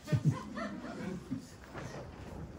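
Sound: dog barking and whimpering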